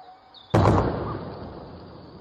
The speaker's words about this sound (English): It was in fact a sonic boom. It happened about lunchtime and was caused by a jet flying incredibly quickly. This is what it sounded like.